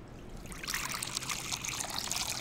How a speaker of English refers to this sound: So what we're going to do is we're going to pour the water in the saucepan.